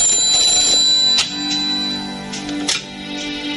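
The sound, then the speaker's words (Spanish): A telephone rings with a steady, bright metallic bell tone that rings on continuously, broken by a couple of sharper clanging strikes, with no voices, as a call from Mr. Bond comes in for the prime minister. “El señor Bond está al teléfono, señora primer ministro.”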